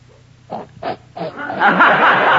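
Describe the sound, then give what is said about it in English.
A woman imitates a pig with three short, throaty grunts in quick succession, followed by a swelling wash of loud crowd noise that carries on to the end. “I don't know whether she sounded like a pig then, but she sure looked like one.”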